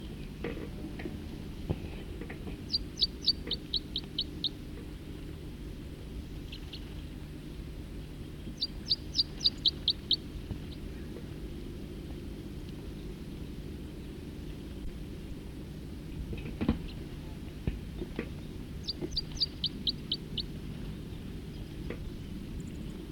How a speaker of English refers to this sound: Oh, there's a fight now. The songster's in a fight. Stop. Start recording the fight again.